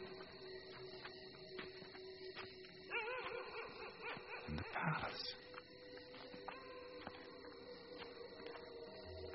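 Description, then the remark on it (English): A sad-sounding dog barks and whimpers, its mournful cries bunching together briefly in the middle over a steady background hum. “There's that sad dog again.”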